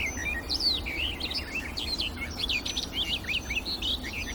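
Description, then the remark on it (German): A songbird pours out a fast, hectic, varied song with bits mimicking a blackbird, chirps and whistles tumbling continuously over a low outdoor rumble. “Und auch sie streut Imitationen mit rein. Es klingt so ein bisschen die Amsel raus.”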